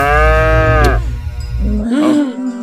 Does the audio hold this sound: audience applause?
no